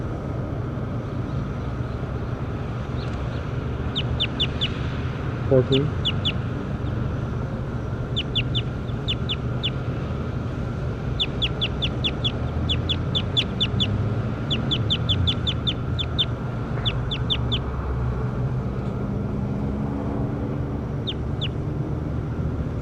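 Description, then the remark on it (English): Calls of a bird labelled bird 14 during a recording session: quick clusters of thin, high-pitched chirps repeating at irregular intervals throughout, over a steady low rumbling background noise. No one speaks. “That's bird 14.”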